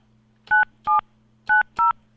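Four short, clear touch-tone keypad beeps dialed on a telephone during a live radio show, in quick succession as two pairs with a brief pause between them, over a faint low electrical hum and no voices.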